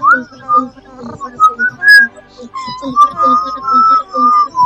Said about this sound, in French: Putain, tu siffles faux, mec. C'est horrible. On dirait qu'il y a une mouche dans le fond, en plus.